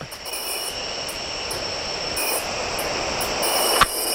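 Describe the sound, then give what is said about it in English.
A frog call rises as a dense, continuous trilling buzz, steady and fairly loud throughout, with rhythmic pulses above it and a single sharp click near the end. No one speaks. “I got one more frog for you to listen to, and I want you to tell this me.”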